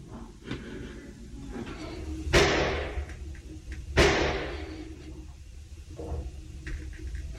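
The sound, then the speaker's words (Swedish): Two muffled gunshots crack out about a second and a half apart, each with a short echoing tail, heard from inside a school toilet in the CD corridor, beyond the locked door, as shots outside come closer during an attack, over a low, steady background rumble. No one speaks. “Kameran är fixerad på den låsta dörren och strax utanför hörs skott som kommer närmare.”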